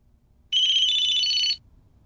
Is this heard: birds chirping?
no